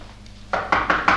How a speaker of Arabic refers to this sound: دق دق دق دق دق مليح.